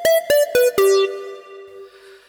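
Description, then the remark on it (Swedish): A short radio bumper jingle: four bright, bell-like synth notes stepping downward in quick succession, the last one held and ringing out as it fades. No voices. “Kan jag slänga in en bumper istället?”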